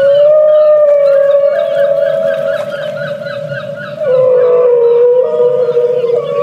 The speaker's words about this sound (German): Was mag das wohl sein? Das sind Wale, die singen,